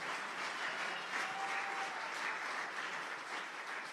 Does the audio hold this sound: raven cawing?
no